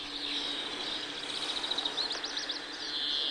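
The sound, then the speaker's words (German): A greenfinch calls through a fairly noisy phone recording, with a steady high wheezing tone and a quick run of rising, twittering notes in the middle, without any voices. “Hört man jetzt aber den Grünfink gleich am Anfang.”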